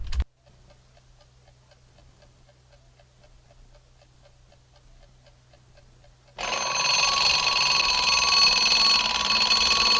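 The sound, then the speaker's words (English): A clock ticks steadily and softly, then an alarm clock suddenly bursts into a loud, continuous metallic ringing that keeps going to the end, while a man lies in bed in the darkness before turning the alarm off. “He turns off the alarm.”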